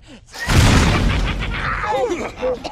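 explosion sound effect

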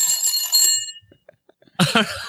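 telephone ringing

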